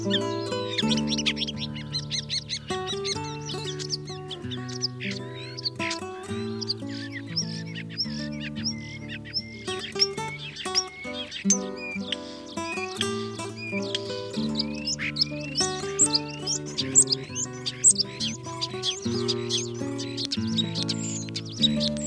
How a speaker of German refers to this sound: Das war der Star.